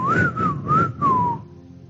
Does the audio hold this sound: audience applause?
no